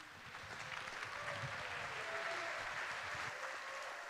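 A crowd applauds steadily, a dense wash of clapping that holds at an even loudness for several seconds with no voices over it.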